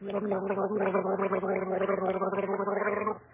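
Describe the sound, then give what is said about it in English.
A person gargles a warbling, bubbly tune in imitation of a nightingale's song, loud and unbroken for about three seconds before it cuts off, with no speech over it. “You call that gargle the nightingale song?”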